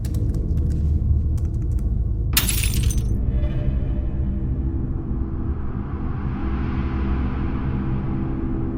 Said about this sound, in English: Yeah, no, some glass just broke in my kitchen and I wasn't even there.